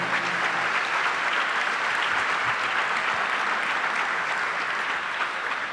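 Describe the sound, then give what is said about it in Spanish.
An audience claps steadily and loudly for several seconds, a dense, continuous wash of many hands with no talking over it, applauding the Lord. “Un aplauso al Señor.”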